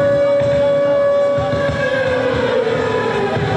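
A loud air raid siren wails in a steady, sustained tone throughout, with a low rumbling background underneath and no voices, marking the start of a humanitarian concert in Belgrade to help the people of Ukraine.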